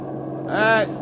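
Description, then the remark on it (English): A bus engine drones steadily, its low rumble swelling briefly with a louder, harsher burst near the end before settling back to an even hum. “You in the bus! Stop, will you? Stop!”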